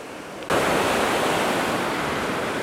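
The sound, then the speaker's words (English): Ocean surf roars onto a beach in Florida, United States, with a steady, broad wash of noise that swells in suddenly and stays loud, wind blowing across the microphone underneath; no one speaks. “I hope you can hear the waves hitting the beach and the possibly the wind. We are in the state of Florida in the United States.”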